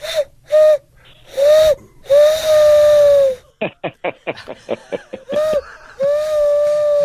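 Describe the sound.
A man vocally imitates a steam train whistle on the Travel Guys show on KFBK: a few short hoots and a long wavering whistle, then a burst of rapid breathy chugging puffs, ending with another sustained loud whistle.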